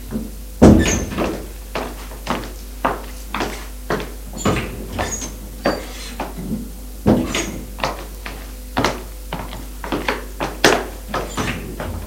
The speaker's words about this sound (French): Il ouvre toutes les portes du premier étage.